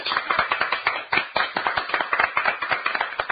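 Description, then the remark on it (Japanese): A few people clap steadily for several seconds to open a show on the opening of a soba school at Arai Shokudo. It is a dense patter of sharp, overlapping hand claps at moderate loudness with no voices over it. “拍手。”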